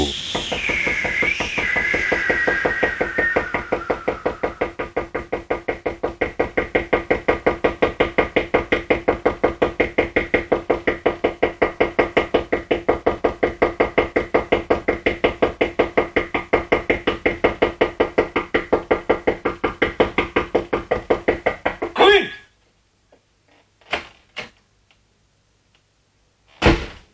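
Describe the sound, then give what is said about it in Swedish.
Rapid, steady knocking on the wooden door of a small cottage keeps up for about twenty seconds, loud, then breaks off, leaving a few scattered single thuds in near silence. “Plötsligt fick han se ett litet torp. Han knackade på.”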